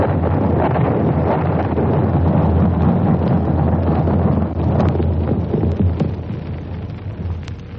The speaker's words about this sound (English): The rumble of the bursting bombs dies away. They've fallen in the harbour about 500 yards from where we were.